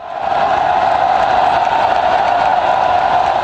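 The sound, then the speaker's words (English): A dense, steady roar of tens of thousands of protesters in the streets of Hong Kong, blocking a road leading to the financial district, many voices merging into a continuous loud wash with scattered shouts, unbroken throughout. “Tens of thousands more in the streets as they blocked a road leading to Hong Kong's financial district here.”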